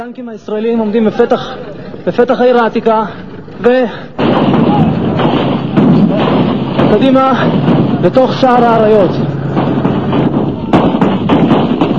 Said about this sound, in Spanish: Todavía hay disparos desde todas direcciones.